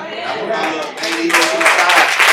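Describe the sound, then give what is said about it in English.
An audience claps, the dense patter swelling louder partway through and continuing steadily, with crowd voices mixed in underneath. “I don't care if y'all clap.”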